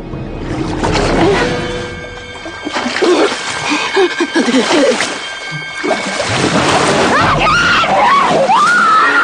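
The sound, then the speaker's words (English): An actress in a film scene of a girl being attacked by a shark gasps in rapid, panicked hyperventilating breaths and lets out high, wavering screams, growing shriller toward the end, over a constant wash of splashing, rushing noise. “What gets me, and the actress conveys so much, like, fright so perfectly, when she starts doing that hyperventilating breathing, which is like, and I, oh my god, when I hear that, the first time I heard that, I'm like, Jesus Christ”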